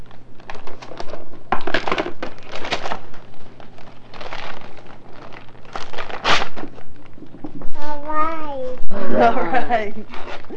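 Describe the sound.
Several bursts of wrapping paper crinkling and tearing as it is ripped off a package, fairly loud, in short irregular rips, with a young child's voice babbling and squealing toward the end.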